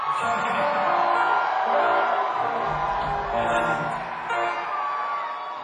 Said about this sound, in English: if you feel like it's starting to get you, just scream with joy. Just scream straight at us.